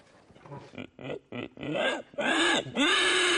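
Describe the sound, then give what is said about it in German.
A person imitates a pig by sucking in air, making rough, inhaled grunts: three short snorts followed by longer, louder squealing grunts, dry, with no other sounds around. “Wenn man die Luft einsaugt, ja, kann man komische Geräusche machen. Ich kann zum Beispiel ein Schwein nachmachen.”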